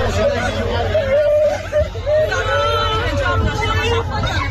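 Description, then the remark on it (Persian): Tourists shouting outside a bus, recorded from inside a bus of government supporters, apparently after the death of a woman tourist: several raised voices overlap in a loud, continuous clamor, with one higher voice wavering above the crowd babble throughout. “در یکی از ویدیوهای منتشر شده که از داخل اتوبوس هواداران حکومت ضبط شده، فضای بیرون از اتوبوس احتمالاً به دلیل فوت یک زن گردشگر ملتهب است و برخی گردشگران فریاد می‌زنند.”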